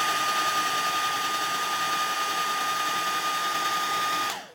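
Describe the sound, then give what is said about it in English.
A hair dryer blows steadily on a metal eyelash curler to heat it, a loud rush of air with a high motor whine, then cuts off abruptly at the very end. No one speaks. “I don't think it does anything when I do this to the blow dryer, but I do it anyways.”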